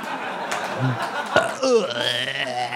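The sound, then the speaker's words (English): A long, drawn-out belch rumbles, stretching for about a second, with chuckling and laughter from people around it. “I'll burp again.”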